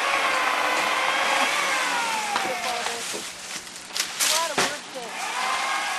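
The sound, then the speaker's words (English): On a Saturday afternoon in Big Tahunka Canyon, Angeles National Forest, a small crew's chainsaws cut through tree branches with a loud, steady buzzing whine to keep a house up to code. Their engine pitch repeatedly rises and falls as they rev and bite into the wood. “On a Saturday afternoon, chainsaws kill the peace and quiet.”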